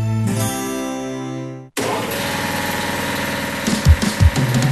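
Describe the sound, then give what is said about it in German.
After a sustained harmonic tone cuts off, a new industrial air compressor made by Renner, a compressor manufacturer for industry and trade, runs with a steady, purring mechanical drone and low rumble, with a few heavier pulses near the end. “was schnurrt denn da so wie ein Kätzli? Ah, das ist unser neuer Kompressor vom Renner.”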